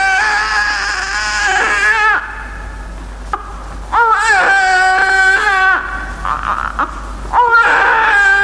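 newborn baby's first cry

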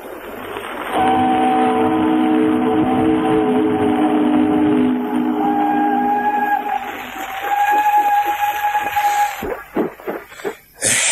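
train running on rails

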